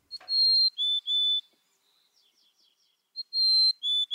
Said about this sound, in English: And here's the same species, a mountain chickadee from another population.